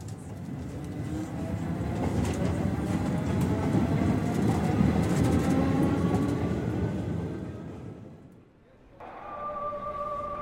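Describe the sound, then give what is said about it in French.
An RER suburban commuter train bound for Roissy rumbles steadily and loudly, dips into a brief lull near the end, then resumes with a sustained high electric whine over the rolling noise. “Le jour du départ, Julien prend le RER pour Roissy.”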